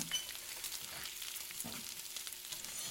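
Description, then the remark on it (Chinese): Steady crackling sizzle of food frying in a wok, a dense hiss filling the upper range with brief stirring scrapes around the middle, no voices present. “好了，起锅。”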